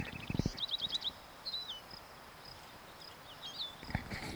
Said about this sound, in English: Wild bird.